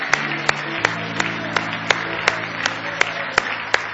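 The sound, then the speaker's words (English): An audience claps in praise of the Lord, a dense wash of many hands with sharper claps landing in a steady rhythm about every half second, while a low sustained organ-like tone hums underneath. “Give the Lord a hand clap of praise.”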